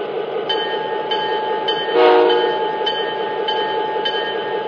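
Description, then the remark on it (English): A freight train rolls by with a steady, heavy rumble and evenly spaced wheel clacks, and a short, loud horn blast sounds partway through. No one speaks. “We're stopped about 20 feet behind these autoracks here, and according to the local, we still got about 10 cars we need to clear.”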